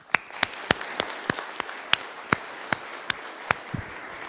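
Light audience applause: a steady patter of soft clapping with a dozen sharper individual claps standing out at a loose, fairly even rhythm. No voices.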